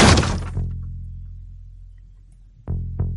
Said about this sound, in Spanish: Avanzó con ese lanzallamas apuntando al frente, hacia la puerta. La abro de una patada.